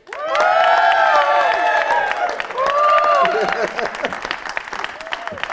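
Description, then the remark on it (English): An audience claps steadily and densely while voices cheer and whoop over it, welcoming guest James Cleverly, a government minister, onto a show; the applause holds strong for several seconds before easing off slightly toward the end. “Please give a hero's welcome to James Cleverly.”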